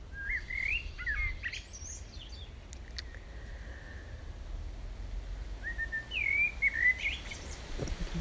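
Birds chirp and whistle in a shady tree in summer in short, scattered bursts of bright, twisting notes, over a soft steady outdoor rumble with no one talking.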